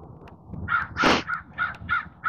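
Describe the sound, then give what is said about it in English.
A crow caws repeatedly in a quick, uneven series of harsh calls, one louder burst in the middle, clear over a faint low background rumble, as it flits about here and there. “Crow having issues.”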